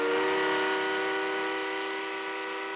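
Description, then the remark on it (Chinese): The train Roosevelt rides west sounds a long, steady whistle, a loud sustained chord of tones that holds for about three seconds, easing off only slightly toward the end, with no voices. “罗斯福坐火车前往西部，沿途他在很多小镇和城市停低发表演讲。”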